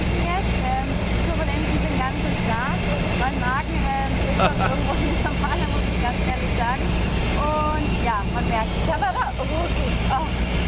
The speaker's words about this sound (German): Das Geile ist, man hört, ich habe außer Turbulenzen gar nichts verstanden, aber man hört, du bist in einem Flugzeug. Richtig, es ist ziemlich laut da drin, das kann man ja schon feststellen in dem Moment.